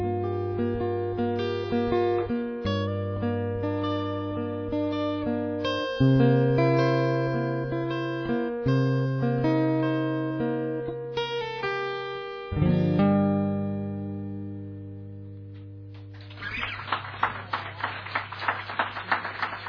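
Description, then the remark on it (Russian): A long bard song with a sustained, chord-based melody plays for most of the stretch, then stops and gives way to a burst of brisk, crackling applause from a crowd that carries on to the end. “Не менее долгие аплодисменты.”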